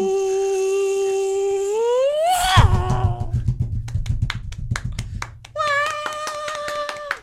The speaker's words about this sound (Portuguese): Ai, eu odeio cringe quando as pessoas batem as palmas, falta de noção.